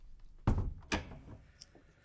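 A door is shut with a heavy thud, quickly followed by a second knock as it settles, then a few faint clicks.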